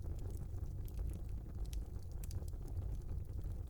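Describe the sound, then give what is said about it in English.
A steady low rumble of a fireplace fire with scattered sharp pops and crackles flickering irregularly throughout, fairly quiet, with no voices. “See the swirling flames of the fireplace dance within the crystal?”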